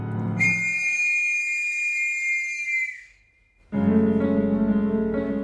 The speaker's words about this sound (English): That factory whistle opens the darkest musical Stephen Sondheim ever wrote. Sweeney Todd tells the story of a demonic barber whose clients become the filling for meat pies.